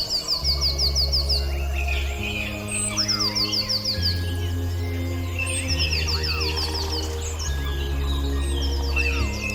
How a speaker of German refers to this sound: Von überall her nahm er das Rauschen der Baumwipfel im Wind wahr und das Gezwitscher der Vögel aus der Ferne, die mit anderen in seiner Nähe im Chor sangen.